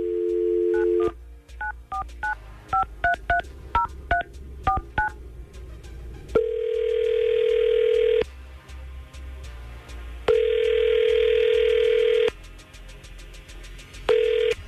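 A quick run of touch-tone dialing beeps, a dozen or so paired tones in rapid rhythm, followed by three long buzzing rings with pauses between them, as the 99.5 QYK Tampa Bay morning radio crew places a phone call; loud and with no one talking.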